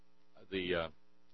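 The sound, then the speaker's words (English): A newly installed air conditioner in a 94-degree studio hums steadily at low volume, with a brief louder, warbling burst of sound rising over the drone midway through before it settles back to the constant hum. “It's going to get dramatically cooler in here.”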